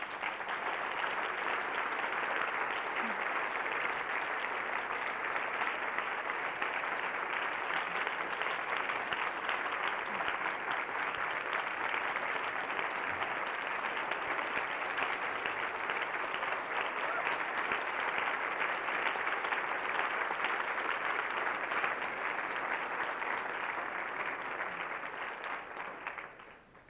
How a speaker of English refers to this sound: Because there's some more people to give applause to.